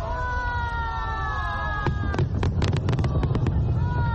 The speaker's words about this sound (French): Des feux d'artifice tirés au stade national de Pékin lors du coup d'envoi de ces 24e Jeux d'hiver.